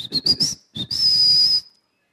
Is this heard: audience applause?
no